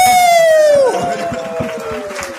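An audience applauds in a steady, dense wash of clapping and crowd noise, while a loud whistled tone slides downward in pitch during the first second.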